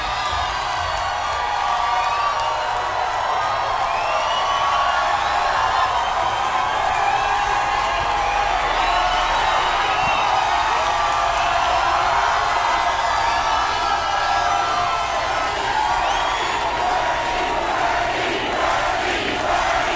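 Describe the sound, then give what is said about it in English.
A large rally crowd cheers and roars continuously as Bernie Sanders walks out, a dense wall of shouting and whooping voices that stays loud and sustained throughout, with scattered higher yells rising out of the din. “Here's what Bernie walked out to.”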